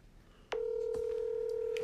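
After a brief quiet moment, a phone dialing tone cuts in abruptly and holds as one steady, mid-pitched electronic beep, fairly loud, with no one talking.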